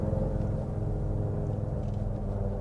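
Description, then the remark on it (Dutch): A Ford F-150 Lightning electric pickup truck accelerating, heard as a steady, fairly loud low rumble with a faint droning whine on top. There is no talking, and the level stays even throughout. “Minder indrukwekkend is het geluid. Nee, ja. Maar ja, hij is ook elektrisch.”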